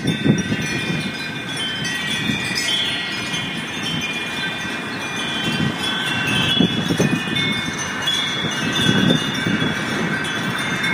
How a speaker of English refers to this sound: Well, that's a soothing sound to take you into the weekend. It's the sound of wind chimes at the Cathedral Basilica in St. Louis.